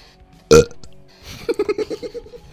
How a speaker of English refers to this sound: I get burps more than two times a year, more than two times a day after every meal. I probably won't even have to apply effort to do this.